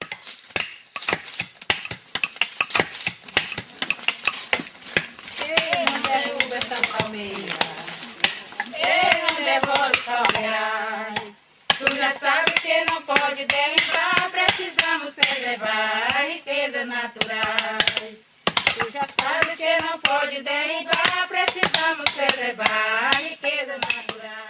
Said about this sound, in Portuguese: Este é um canto de trabalho das mulheres quebradeiras de coco babaçu, no Maranhão. Elas se reúnem e cantam bastante enquanto fazem o serviço.